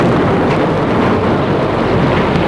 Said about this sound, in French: Ils avancent difficilement au milieu de l'orage.